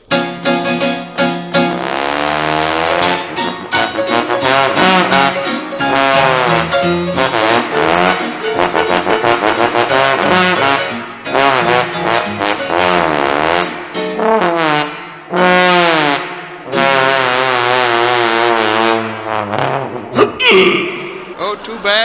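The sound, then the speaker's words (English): A voice imitates a trombone, presented on a show's stage as the great Blubberlips, a trombone-playing whale. It slides and wobbles through loud, buzzy brass-like notes with frequent glides between pitches, playing almost continuously for over twenty seconds with a few short breaks. “Now to conclude our show this evening, I know you've all seen and enjoyed our performing seals from time to time, but we have now being prodded out onto our stage one of the world's few trombone-playing whales, the great Blubberlips.”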